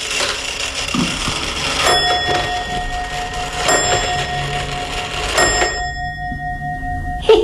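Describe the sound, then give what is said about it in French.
An old Swiss clock chimes a slow series of bright, ringing strokes, each tone hanging and overlapping the next, with a steady background hiss and no talking. “C'est suisse, c'est la pendule suisse, elle est vieille comme tout.”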